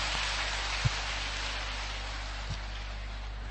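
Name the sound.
audience applause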